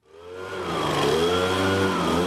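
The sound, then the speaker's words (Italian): A petrol leaf blower runs steadily, its small engine droning with a buzzing, slightly rising whine that swells in over the first second and then holds loud and constant, with no voices. “Il rumore di un soffiatore a benzina, il suo uso attualmente a Zurigo è permesso, sempre.”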